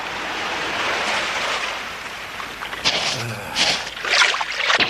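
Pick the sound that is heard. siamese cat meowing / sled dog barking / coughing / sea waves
sea waves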